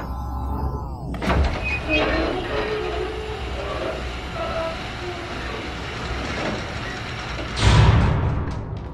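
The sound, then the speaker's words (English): Heavy silo doors, opened on a spoken command to a computer, grind and slide open with a long mechanical rumble, metallic scraping running throughout, ending in a loud low thud as they come to rest. “Computer, open silo doors.”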